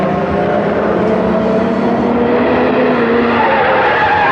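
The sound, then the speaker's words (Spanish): A brakeless car driven by Kalimán races down a road at about 100 miles per hour toward a sharp curve, its engine roaring loud in a steady, unbroken drone with a whining, screeching edge, as if the tires are straining. “El auto es un proyectil que desciende por la carretera como un relámpago y el hombre increíble acciona la palanca de velocidades.”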